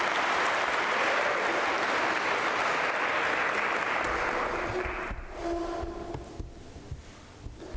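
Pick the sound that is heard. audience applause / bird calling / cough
audience applause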